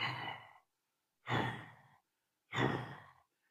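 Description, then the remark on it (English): A person imitates a lioness's breathing with three slow, heavy, breathy exhalations, evenly spaced with short silences between, loud. “But I could hear the lioness was breathing like this.”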